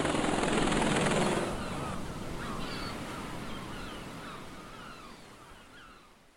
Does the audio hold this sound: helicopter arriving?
yes